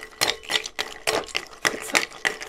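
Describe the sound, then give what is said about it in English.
Sharp, repeated cracking and clinking as ice cubes for stirring a cocktail are struck with an ice tapper, roughly eight hard taps at an uneven rhythm, each a bright crack with a brief rattling tail. “My tapper is not cracking it very well.”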